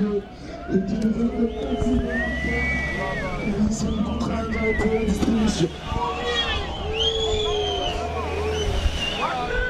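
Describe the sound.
A roadside crowd at the Tour de France cheers and shouts as the advertising caravan throws out candy, many overlapping voices rising and falling in pitch, with occasional louder whoops standing out above a steady, dense hubbub of chatter.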